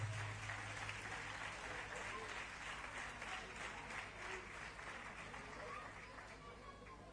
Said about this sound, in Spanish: Un fuerte aplauso.